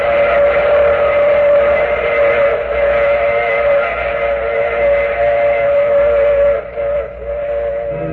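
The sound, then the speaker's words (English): A loud steam whistle sounds one long, sustained chord over the heavy rumble and clatter of a running train, the whistle fading slightly near the end. “Oh, you have to get off here. I'm sorry. But I'm sure we'll meet again. I take this same train every week at the same time.”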